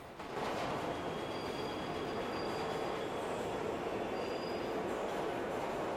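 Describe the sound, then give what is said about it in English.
Steady, loud rumble of an underground train carriage carrying standing passengers as it runs along the tracks, with faint high wheel squeals drifting in and out over the constant roar. No voices. “Hero looks a million miles away as he stands with other passengers in an underground train carriage.”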